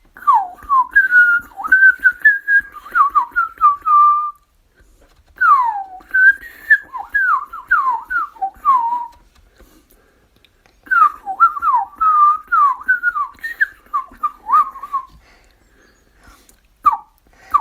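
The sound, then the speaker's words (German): A person whistles a blackbird-like song in three warbling phrases of rapid, swooping notes with short pauses between them, clear and fairly loud with no talking. “Also, mit der Amsel.”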